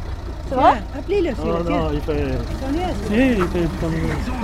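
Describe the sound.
A car engine idles with a steady low rumble as the car pulls up, beneath overlapping voices, the motor holding an even drone while people talk over it.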